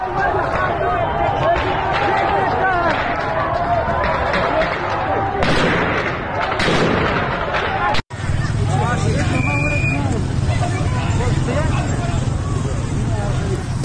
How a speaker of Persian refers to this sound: ما از خاش صدایی داریم از تیراندازی هایی که به سوی مردم صورت گرفته.